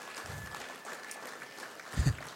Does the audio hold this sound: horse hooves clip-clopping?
no